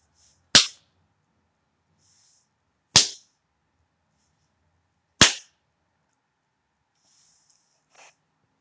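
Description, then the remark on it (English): Three sharp, loud slaps of slow, deliberate spanking land one by one at even intervals of a couple of seconds, followed by a much fainter fourth. Each is a crisp smack on skin with quiet between. “You start by spanking me slow, slow, deliberate slaps.”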